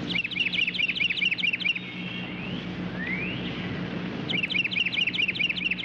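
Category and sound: bird, carolina wren song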